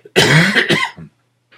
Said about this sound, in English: Break here for a cough.